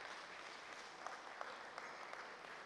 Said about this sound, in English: Let's give the team a round of applause as well, because the food was really good.